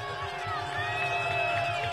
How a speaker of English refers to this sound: Triton crowd making noise.